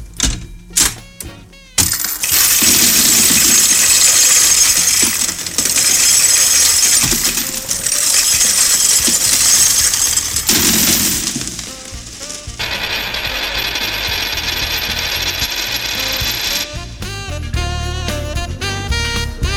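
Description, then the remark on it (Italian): A loud, dense cascade of coins pouring out, a continuous metallic jingling and clattering that runs for several seconds, shifts to a steadier rush, and gives way to brief music at the end. “Versamento di monete.”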